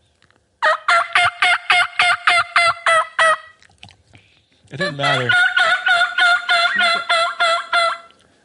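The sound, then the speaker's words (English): A rapid, raspy run of about a dozen hen turkey yelps blown on a mouth reed call, then a pause and a second longer, denser burst of hen talk, loud. “But what makes me mad is I think I've got this whole like wild hen talk mastered, and you go out and you hear some hen off 100 yards yapping away.”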